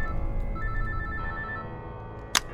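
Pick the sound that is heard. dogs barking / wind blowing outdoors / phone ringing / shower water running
phone ringing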